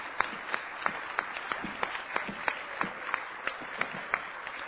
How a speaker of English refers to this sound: And so I'm asking you to help me thank them today by clapping and leading the congregation in clapping to thank them for their ministry.